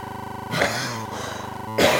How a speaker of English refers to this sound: And me coughing. Well, you never know what to expect on amateur radio.